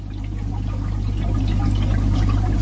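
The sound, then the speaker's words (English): Liquid bubbles and gurgles steadily throughout from a wooden and glass box evoking a 16th-century alchemy laboratory, in a museum in Prague's Malá Strana district, a continuous watery burble over a low, constant hum, with no voices present. “A bubbling sound coming out of a wooden and glass box conjures up the mysterious atmosphere of a 16th century alchemy laboratory on the ground floor of a picturesque courtyard building in Prague's Malá Strana district”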